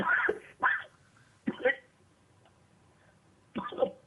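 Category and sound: human body sound, coughing and throat clearing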